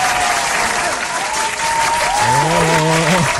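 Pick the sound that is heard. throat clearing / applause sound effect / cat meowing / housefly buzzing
applause sound effect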